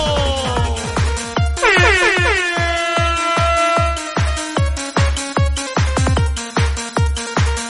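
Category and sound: signal or alarm, air horn blast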